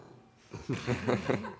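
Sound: pet snoring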